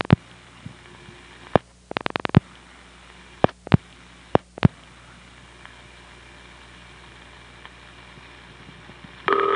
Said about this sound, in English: Yes, you did hear a burst of 2600 when it hung up. N2 carrier does use 2600 just like N3 and the long distance carriers.